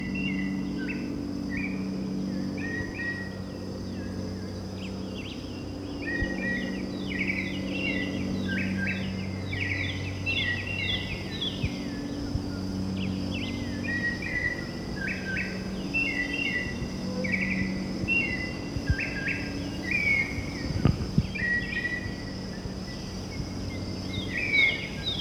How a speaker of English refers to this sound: Okay, confirmed. This is the white chin thrush that's been calling. That's a very mockingbird quality.